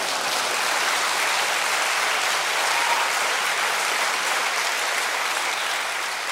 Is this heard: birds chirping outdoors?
no